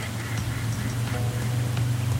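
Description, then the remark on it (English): Geese honking in a loose, overlapping series of calls over a steady low rumbling hum, with no one speaking. “And so do the geese, apparently.”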